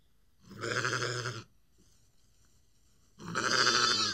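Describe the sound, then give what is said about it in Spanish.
Two loud, wavering bleats from grazing sheep, with a pause of quiet between them, each lasting about a second, clear with no one talking. “Las ovejas pastaban felices”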